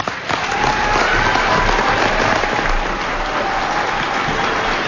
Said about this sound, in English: who's now receiving a standing ovation from the crowd here at the Virgil Middle School Auditorium.